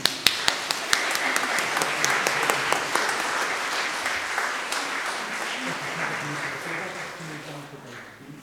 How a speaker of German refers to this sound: Jetzt dürfen wir, glaube ich, mal klatschen.